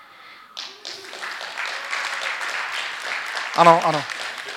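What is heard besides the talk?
audience applause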